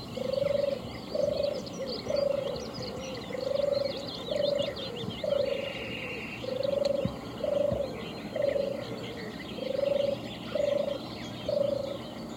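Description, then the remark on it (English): A European turtle dove gives its soft, purring call, a low rolling note repeated about a dozen times in a steady rhythm, with faint chirps from other birds in the background. “Listen to the European turtle dove.”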